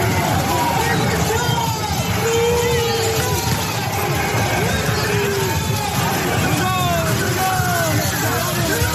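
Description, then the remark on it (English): A dense, continuous hubbub of a large outdoor protest crowd in Portland, Oregon, where federal agents sprayed tear gas into a crowd that included Mayor Ted Wheeler; many voices overlap into a loud roar with occasional shouts rising above the din. “And in an updated story, it appears that they've even sprayed tear gas into a crowd that included the mayor, Ted Wheeler.”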